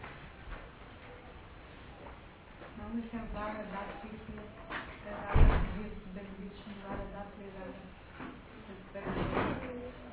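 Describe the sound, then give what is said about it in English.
A single solid thump of a door shutting lands midway through, louder than the surroundings, while people keep talking before and after. “Can we close that door?”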